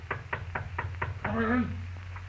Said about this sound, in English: Oh, maybe I better knock first.